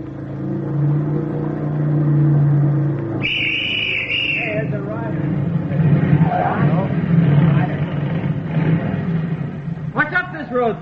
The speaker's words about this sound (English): At 10:18 on the third mile of the road, the platoon heard a motorcycle coming from the direction in which they had come.